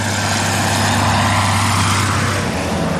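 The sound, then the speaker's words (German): Steady, loud rumble of car traffic on a busy road, a continuous roar of engines and tire noise with a deep low hum beneath, with no distinct pass-bys and no voices. “Es war ein sonnig warmer Tag im August nach einem ungewöhnlich kühlen Sommer, als drei Wanderer am Rande der vielbefahrenen Autostraße dem nahen Dorf zustreckten.”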